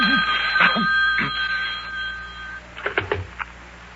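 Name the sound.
telephone bell ringing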